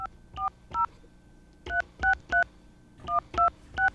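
A phone number being dialed: a string of ten crisp, two-tone keypad beeps in three quick groups, each tone short and evenly spaced over a faint low hum.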